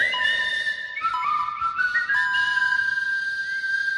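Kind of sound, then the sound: human body sound, person whistling a tune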